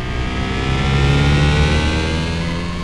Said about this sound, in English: This is a giraffe. It is driving a car.